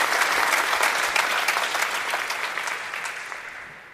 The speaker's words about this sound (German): Ja, einen schönen guten Morgen aus Wolfsburg, wo gerade das öffentliche Training läuft. 1500 Zuschauer sind doch gekommen und Buhrufe gab es nicht für oder gegen Hansi Flick, sondern tatsächlich aufmunternden Applaus.